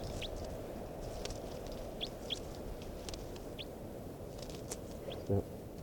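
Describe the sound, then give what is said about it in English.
A captive female bird, numbered 584, calls during testing of new captives: short, high chirps at irregular intervals, a dozen or so thin downward notes over a steady low rumbling hiss, with a brief dull thump near the end. “Yep. Recording is bird 584.”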